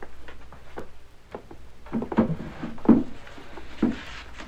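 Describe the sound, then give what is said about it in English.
A wooden drawer on the left-hand side of a desk is handled, followed by a run of clunks, knocks and shuffling as items are pulled out one after another to empty it, with no one talking. “Just the drawers on the left-hand side of the desk. Well, why don't you empty them while I take these down to the wagon?”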